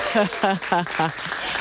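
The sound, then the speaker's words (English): A studio crowd at Radio National Breakfast claps and cheers a welcome in the morning, with about four rhythmic voiced whoops rising over a steady wash of applause, lively. “And a big welcome from our crowd this morning as well.”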